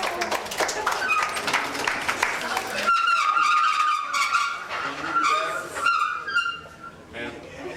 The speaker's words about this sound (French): On peut applaudir